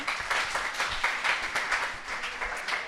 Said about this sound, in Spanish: Un aplauso